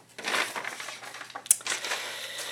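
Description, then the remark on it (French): Sheets of paper being crumpled, a continuous dry crackling and rustling with uneven bursts, including one sharp crisp snap midway, no voices. “Des belles feuilles que l'on froisse”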